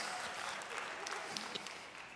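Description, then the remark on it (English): A room full of people who have been to couples camp applauds, a dense, steady wash of many hands clapping at once with no pauses, moderately loud and sustained throughout. “Can I have some applause from people in our rooms who've been to couples camp?”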